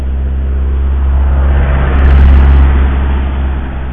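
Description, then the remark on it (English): A car rumbles steadily past on a winding road in a wooded valley, its low engine drone swelling to a peak in the middle and easing off again, with no voices present. “I've been listening to some audio blogs or pods, while a car trundles past.”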